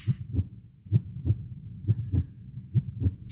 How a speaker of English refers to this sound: Know that life is still listening, you listen to that heartbeat.